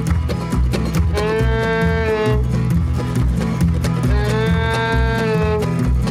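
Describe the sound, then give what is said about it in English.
A voice imitates an old cow's drawn-out moo twice, each low lowing call held for about a second, over a loud, busy rhythmic clatter that continues throughout. “That was an old cow.”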